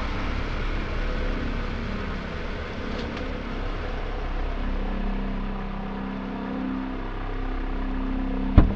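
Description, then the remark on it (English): A car engine idles steadily with its high beams on in a cemetery at night, a low, continuous rumble and faint whir holding constant throughout, ending with a brief sharp knock near the end. “Keep the high beams on so I can see, but don't kill the engine.”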